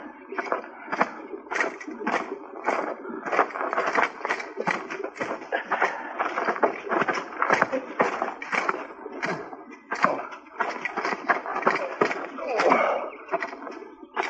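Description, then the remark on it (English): Horses' hooves clip-clop in a busy, steady rhythm, many overlapping hoofbeats at a fairly constant moderate loudness, as several horses are brought up and approach. “you go bring the horses up.”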